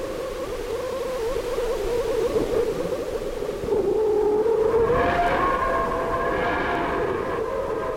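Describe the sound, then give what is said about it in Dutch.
A dense, roaring recording of a whistler radio emission captured by the Parker Solar Probe in the plasma around the sun, with frequencies shifted into the audible range. Steady tonal bands bend and glide, joined midway by higher rising and falling whistling tones over continuous hiss, with no voices. “En hier is nog een Whistler van de Parker Solar Probe.”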